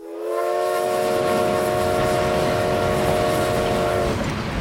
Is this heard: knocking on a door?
no